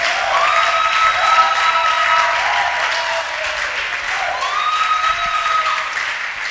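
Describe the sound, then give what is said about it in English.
A large crowd claps steadily and loudly throughout, with rising whoops and shouts cutting through the applause in two clear bursts. “If you know you are coming mightily, I say clap and shout.”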